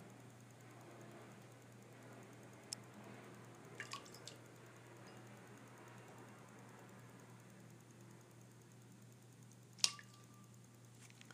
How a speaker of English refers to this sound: The splashing you hear is Gonzo splashing his water bowl. I'm not certain why. He's just swiping at it. Like he sees something in there.